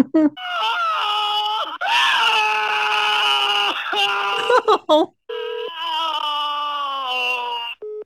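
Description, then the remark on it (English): A man screams and yells continuously in long, strained bursts with brief breaks, sounding harsh and tinny through a phone line, on a call to a home phone number that was shown in a television advertisement. “Yeah, it's a guy screaming and yelling.”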